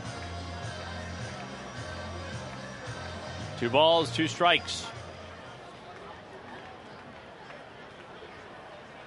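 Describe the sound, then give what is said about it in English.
A steady baseball ballpark crowd murmur, the crowd awaiting a fireworks show, fills the background throughout, with a man's voice speaking briefly and clearly over it about midway. “Crowd anticipating a fireworks show here, and here's the 2-2.”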